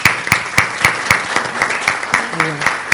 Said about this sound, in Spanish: Bien, queda aprobado por unanimidad. Le damos un aplauso también a los vecinos.